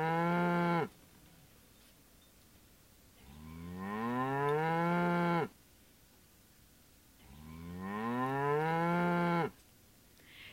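A cow lets out three long, loud moos, each drawn-out low call separated by a couple of seconds of quiet, with no voices.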